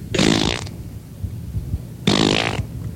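Two loud, sputtering fart noises, each about half a second long, separated by a short pause. They sound rasping, with a low rumble between them and no talking.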